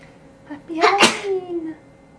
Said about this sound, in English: Oh, bless you.